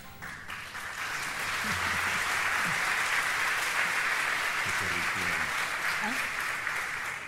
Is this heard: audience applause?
yes